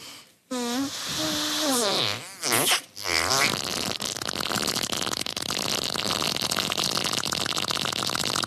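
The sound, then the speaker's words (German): A woman blows a long, wobbling raspberry with her mouth, mimicking a fart to make other people laugh, followed by a sputtering burst, then a steady buzzy rumble that continues to the end, loud. “wie sie furzt. Allerdings nicht wirklich, sondern mit ihrem Mund, um andere Leute zum Lachen zu bringen.”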